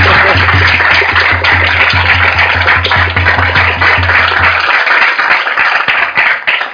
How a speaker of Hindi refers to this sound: बजाओ तालियां बजाओ, अपने जन्म के लिए बजाओ।